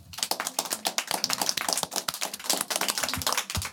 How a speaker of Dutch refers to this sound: Geef een groot applaus voor ADB.